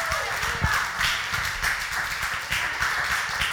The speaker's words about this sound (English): Come on and clap your hands right now.